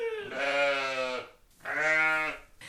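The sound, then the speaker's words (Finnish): Two long, wavering sheep bleats, clear, with a brief pause between them and no talking, heard out on an open pasture at a sheep farm. “Täällä ja miten ihanaa olikaan käydä tuolla lampalassa.”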